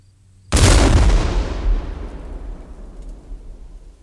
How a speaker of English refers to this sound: Now the crew stands by for the howitzer shot. Here it is.